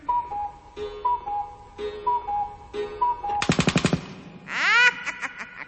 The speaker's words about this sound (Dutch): Want slaat de klok 5 uur.